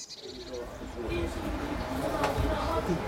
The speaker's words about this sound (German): Vom Zentralfriedhof, erstes Tor, fährt eine Straßenbahn zurück in die Stadt.